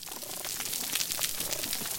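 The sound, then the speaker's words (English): Dense, steady crackling like static or frying fat, made by snapping shrimp: countless tiny sharp pops overlapping in a continuous hiss, with no voices present. “These crackles come from snapping shrimp.”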